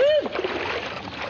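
Liquid being poured from a freshly opened bottle into a glass beside a swimming pool, a steady splashing gurgle that runs for about a second after a brief ringing tone at the start.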